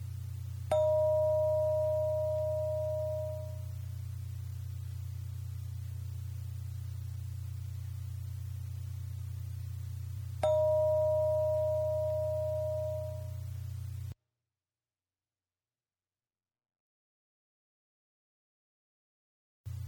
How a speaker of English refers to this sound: I'll ring a bell every 10 seconds, so you'll hear the bell ring 3 times during the 30 seconds.